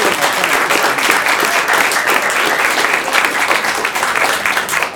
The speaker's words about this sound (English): So please give him a warm round of applause.